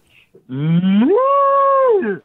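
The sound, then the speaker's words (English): A person's voice imitates an old cow, giving one long, loud moo that starts low, rises and holds steady, then drops away at the end, with no talking. “Give me an old cow, yeah.”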